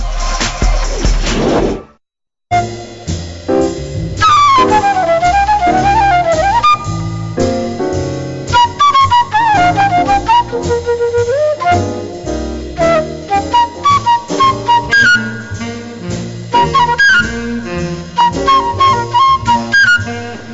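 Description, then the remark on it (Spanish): A short musical interlude on the radio programme Momento Económico: after a brief noisy burst and a moment of silence, loud instrumental music plays steadily, with a melodic lead over a rhythmic bass and no voices. “Yo les pediría, bueno, vamos a hacer una breve pausa musical y volveremos.”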